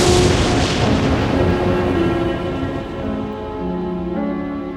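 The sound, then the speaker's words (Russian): A loud thunderclap following a lightning flash bursts in at once and rolls on as a long, rumbling decay, slowly fading over several seconds while a low sustained tone hums beneath it. “Вспышка молнии.”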